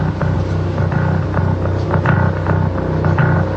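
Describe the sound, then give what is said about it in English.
A city bus engine in Brussels rumbles loudly, a steady deep drone with a throbbing low hum and occasional faint clatters on top, and no voices. “Sorry, my bus.”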